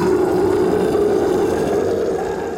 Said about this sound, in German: Und platsch, landet direkt hinter dem Kopf der Kreatur. Der Lindwurm schreit ein letztes Mal auf.